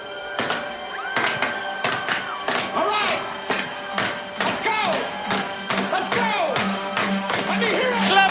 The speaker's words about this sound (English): You cannot just start a slow clap. Look, you can't just start a slow clap at any old time. You gotta wait for the right moment. But how am I going to know when it's the right moment? Oh, you'll know. Now we can start the slow clap.